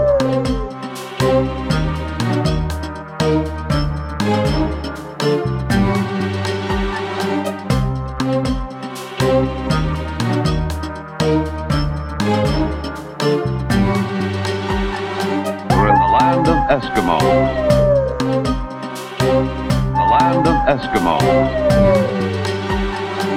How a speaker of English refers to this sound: Howling husky dogs, howling husky dogs, howling husky dogs tell us we're in the land of Eskimos.